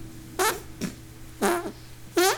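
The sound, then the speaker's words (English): Three loud, wet armpit fart noises at an uneven pace, each a short sputtering burst, with a fainter squelch between the first two and a steady low hum underneath. “This is my armpit making the sound.”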